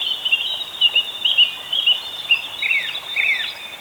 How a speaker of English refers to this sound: Yeah. A beautiful little song. Yeah, finches are actually quite hard to catch because it's so high and mixed yeah. in with all the other sounds.